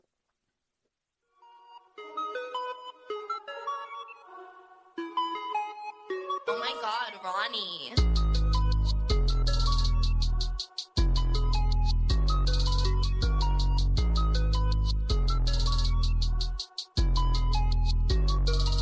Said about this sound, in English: All right, so next up is a song I also listen to at the airport a lot, and it's from a movie I really enjoyed called The Fallout.